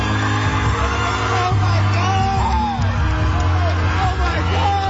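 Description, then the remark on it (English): An excited concert-goer at a concert yells and whoops loudly over a dense, roaring crowd, the cries rising and falling in pitch throughout, with the audience's clamor continuous underneath. “Oh, this guy's freaking out.”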